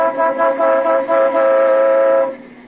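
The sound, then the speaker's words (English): A car horn blares in a few short stuttering bursts, then holds one long steady honk before cutting off, its bright harmonic tone sounding alone with no voices. “Sounded like the horn in our car, boss.”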